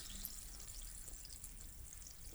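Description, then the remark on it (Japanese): Carbonated water pours with a steady, crackling fizz, a soft continuous hiss of bubbles that stays even throughout, quiet with no talking, as carbonated shampoo is rinsed off with the carbonated water. “炭酸シャンプーを炭酸水で流して。”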